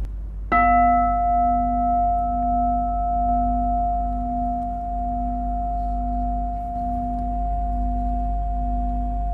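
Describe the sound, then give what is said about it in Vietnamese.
A single meditation bell is struck once, then rings on with a steady, pure humming tone and bright overtones, slowly fading over several seconds with no voices. “Giờ mình nói nghe cái tiếng chuông, mình quán chiếu được trí tuệ thiền tại thứ nhì.”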